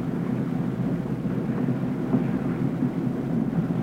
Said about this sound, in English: Nice, soft sound of those engines purring behind me. This houseboat sleeps 8.